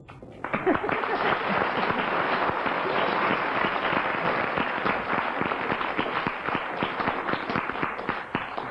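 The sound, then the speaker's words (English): A crowd claps steadily for several seconds, voting to show agreement on a round of a game, a dense, even patter of many hands at a fairly loud, constant level, with no voices standing out. “Well, I think for that round, we'll ask the audience to decide. If you agree, clap.”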